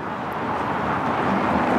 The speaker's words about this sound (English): A few cars still going by, but almost no pedestrians. This very central street is just completely deserted.